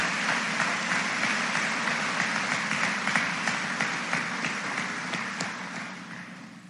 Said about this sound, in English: Let's give a nice round of applause to all of our honors diploma seniors.